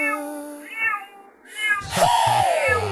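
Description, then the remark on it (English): A pet cat meows several times, the calls growing louder and ending in a long, drawn-out, wavering yowl with a rough, noisy edge. No one speaks. “My cat. A furry ball of joy and power.”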